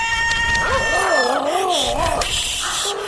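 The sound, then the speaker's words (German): A voice imitates a cat's meow, drawn out into a loud, wavering warble that rises and falls for about two seconds over a steady background. “Miau! Miau!”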